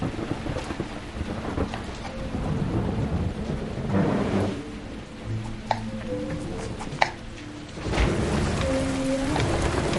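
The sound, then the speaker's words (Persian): Steady rain pours down with low rumbling thunder rolling beneath it, swelling louder twice, while a few sharp drips and taps stand out. No one speaks. “فعلا که داره بارون میاد، بند بیاد بعد میرم.”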